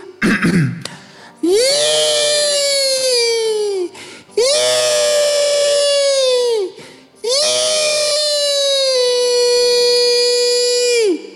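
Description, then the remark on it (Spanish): A person lets out three long, loud, terrified screams in a row, each held steady for a couple of seconds before breaking off, with brief gaps between them. “Te enseñan a tener un grito tremendo, terrible, de terror, como el mío, así.”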